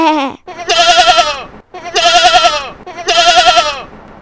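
A lamb character in the Catalan tale of the little mouse (la rateta) bleats three times in a row, each call about a second long with a shaky, wavering tremolo, loud and nasal, with brief pauses between and no talking.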